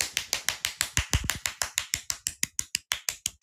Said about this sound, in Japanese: じゃあ全員に向かって、大きな拍手いきましょう。全員で、せーの、素晴らしい！